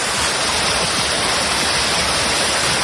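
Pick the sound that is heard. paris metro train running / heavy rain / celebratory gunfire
heavy rain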